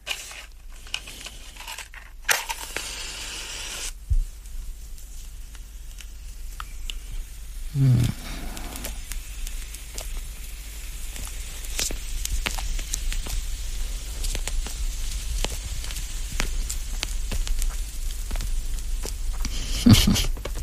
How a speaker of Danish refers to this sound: Jeg skal lige have remedierne klar. Jeg skal jo have ild i cigaren. Før kan vi ikke rigtig starte.